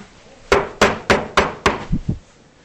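Knocking on a door: five loud, sharp raps in a quick, steady rhythm, then two softer, duller thumps trailing off. No voices are heard.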